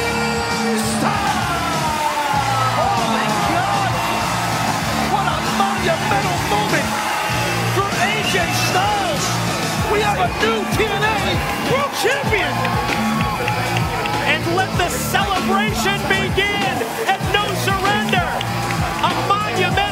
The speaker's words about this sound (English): AJ just pinned your shoulders to the mat for the 1-2-3, and the crowd is absolutely, let's just listen to this, and then I'll finish the question.